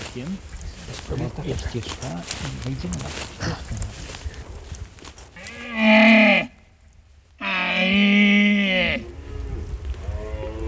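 Two deep, drawn-out roars of a second red deer stag in rut, answering from the opposite side, the second roar longer, rise loudly out of a steady rustling background with a brief lull between them.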